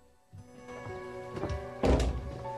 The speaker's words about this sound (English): She turns, walking slowly towards the front door. Helen opens the door to Frost and his colleagues, and they follow her inside.